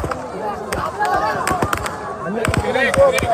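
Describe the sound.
Several sharp gunshots crack out at irregular intervals, some in quick pairs, at a food aid distribution center at 10:15, over a noisy background of many voices shouting and murmuring from a crowd of thousands waiting for food parcels.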